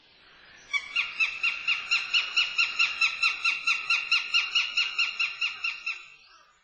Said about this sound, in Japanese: サシバです。